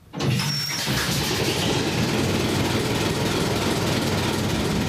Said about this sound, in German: Also das ist ein MWM-Motor von 1959. Der hat 175 PS. Wir haben jetzt mit Öl vorgeschmiert und jetzt werden wir Luft aufdrehen und den Motor starten.